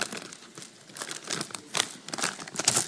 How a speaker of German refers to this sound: Ich habe Smarties mitgebracht. Seht die Smarties? Kann das Sackerl aufreißen?